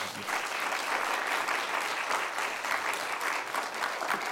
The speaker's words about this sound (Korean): 우리 목사님 나오실 때 우리 할렐루야 우리 하나님께 영광 돌리면서 박수로 환영하겠습니다.